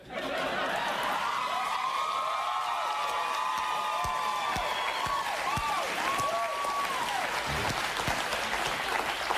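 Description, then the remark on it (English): A studio audience breaks into sustained applause with scattered whoops and cheers, loud and steady for several seconds, with some voices and laughter mixed into the clapping. “I see you seem to have struck a nerve with our audience.”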